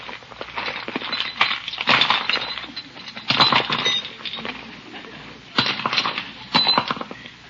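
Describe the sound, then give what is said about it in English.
Small items (lipstick, a compact, house keys, a pillbox, a fountain pen and a flashlight) clink and rattle as they are moved from one purse to another, in several bursts of clatter and rustling with short pauses between, and no one speaking. “Well, I just have to take time to change my purse.”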